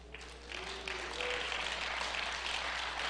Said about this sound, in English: I'm not sure you should be clapping for that.